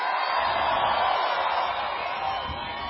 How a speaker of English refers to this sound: Wow, what a crowd this is.